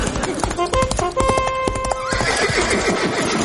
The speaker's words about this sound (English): What? Why the horse and bugle?